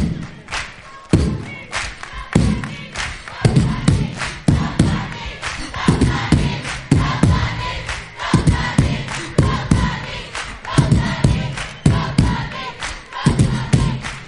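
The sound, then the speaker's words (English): A loud crowd roars and cheers over a steady stream of sharp, irregular claps and thuds, the noise holding at a dense, constant level throughout, as the audience claps at a performer's call. “Clap your hands to the people down here. Clap your hands. Let me hear it.”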